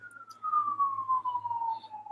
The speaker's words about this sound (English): Sirens nonstop. I don't know if I just have noise in my head, but I swear I can still hear sirens even though you're muted. There's another one coming. Maybe it's an echo.